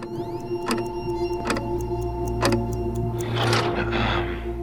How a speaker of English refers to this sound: He closes his eyes again and acutely hears the second hand moving around the interview room's clock.